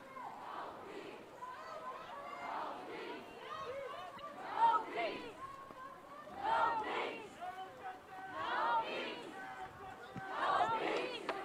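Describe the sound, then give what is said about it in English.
Dense crowd chatter fills the scene, many overlapping voices at moderate level with occasional louder shouts rising above a steady babble of footsteps and movement as a crowd walks down Jackson Avenue towards the Barnes and Noble. “So we're going to walk with the crowd real quick.”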